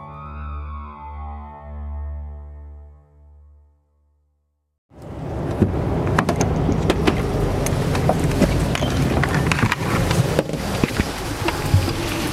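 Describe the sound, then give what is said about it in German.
A brief electronic tone fades out. Then steady footsteps crunch across rough, gravelly ground outdoors on the grounds of a cement works beside a limestone quarry in Rüdersdorf near Berlin, Germany. The steps are fairly loud over a broad rustling background, with no talking. “Es geht noch ein paar Schritte geradeaus, dann kommt die Abbruchkante eines Kalksteinbruchs.”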